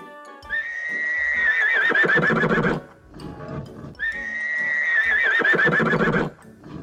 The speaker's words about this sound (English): It's a horse. I see the horse.